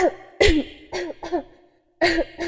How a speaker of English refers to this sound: Did you have another coughing fit?